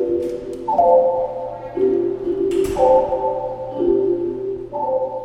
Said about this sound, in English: Well, and here we have the vibrations actually in the chimes. Let's hear.